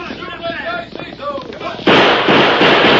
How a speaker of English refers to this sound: I'll fire a few shots to make them think I'm trying to stand them off.